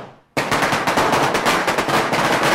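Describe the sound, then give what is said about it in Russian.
A sudden, loud burst of firecrackers set off by a neighbour celebrating a holiday explodes after a brief silence, crackling in rapid, unbroken succession like a string of pops that keeps going to the end. “Конечно, бывает, надоедает этот грохот. Ну, куда деваться? Сосед отмечает праздник.”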